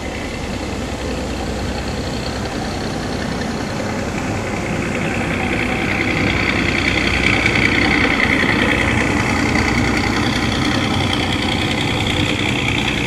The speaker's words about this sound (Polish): To prawdopodobnie starsi ludzie mówili, jak był w Puławach w porcie, to jak z dęblina ruszał, to było słychać, jak ten silnik był na tym statku. Specyficzny miały taki dźwięk. To benzynowe były silniki.